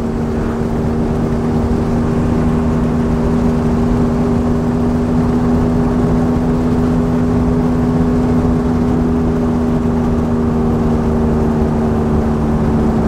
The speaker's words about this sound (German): was das für ein Hochgenuss ist, in einem solch großen Tourenwagen durch die bayerische Landschaft zu fahren